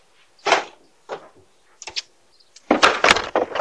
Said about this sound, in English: the carer became very mad and doorbell camera footage captured the moment she drew her head back and intentionally spat on the handrails outside the front door.